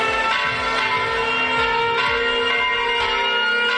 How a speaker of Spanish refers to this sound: las sirenas, las campanas que van a recordar el bombardeo.